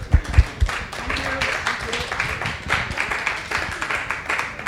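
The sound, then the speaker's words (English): An audience at a Bloom in the Park panel discussion claps in sustained applause, a dense patter of many hands that holds steady for several seconds, with a few louder claps near the start. “So please give him a round of applause.”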